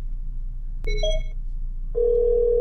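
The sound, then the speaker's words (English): A telephone rings with an electronic tone: a short bright burst, a brief pause, then a steady sustained ring that continues to the end, over low background hum. “I thought her phone was off.”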